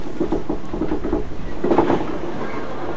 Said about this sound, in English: Funny noise. Yeah, so the old trains, the doors rattle somewhat. Oh, it's the door? I was trying to look at what it was. Yeah, it's the door rattling in its frame.